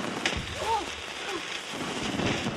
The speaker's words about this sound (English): We were just lighting off some fireworks to help set the mood.